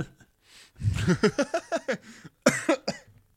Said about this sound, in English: Sorry, my coffee. I'm coughing because my coffee had bits of limescale in. Ugh.